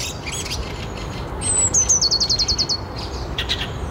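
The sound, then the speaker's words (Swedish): A Eurasian blackbird alarm call, recorded in the morning: a quick descending note followed by a rapid, even run of sharp chinking notes, with fainter bird chirps scattered in the background. “Både du och Man Hermes har spelat in koltrast i morse.”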